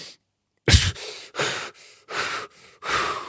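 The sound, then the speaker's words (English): After a brief silence, a person who has been holding their breath lets out a sharp, loud gasp for air, followed by four rapid, heavy breaths in an uneven panting rhythm, with no talking. “You ask someone with acute panic or anxiety to hold their breath, this is usually what happens.”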